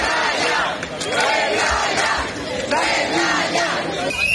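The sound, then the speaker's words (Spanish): A street protest of striking doctors in Spain during a national strike against the draft new Framework Statute for health staff: a large crowd chanting and shouting together in loud, rhythmic bursts, with a steady roar of voices filling the gaps between chants. “Así han sonado las protestas de médicos de toda España que han salido a la calle para denunciar que el nuevo estatuto marco propuesto por el Ministerio de Sanidad recorta derechos laborales, impone exclusividad durante los primeros 5 años de contrato”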